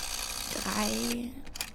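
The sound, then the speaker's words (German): The dial of an old green rotary telephone turns and whirs back with a short mechanical ratcheting sound while a number is dialled, over a faint background hum. “Boah, das dauert ja lange mit so einem alten Telefon.”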